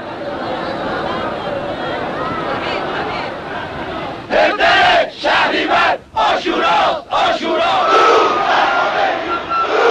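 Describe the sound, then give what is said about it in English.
A large crowd in Iran roars in a dense, continuous wall of voices, then breaks into loud rhythmic chants of greeting to Khomeini in repeated bursts with brief gaps. The crowd swells and surges throughout as it pushes toward him. “Greetings to you, Khomeini, they chanted, surging toward him, desperate to touch the hand or robe of the holy man, or to have something, anything, touched and blessed by him.”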